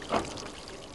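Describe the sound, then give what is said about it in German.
Cold water is poured to soak a roof: a brief splash that peaks early, then settles into a steady, soft trickle for the rest of the second. No voices are heard. “Zunächst das Dach gut einweichen und zwar mit kaltem Wasser.”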